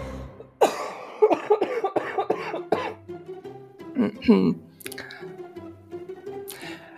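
coughing

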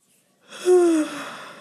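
yawn

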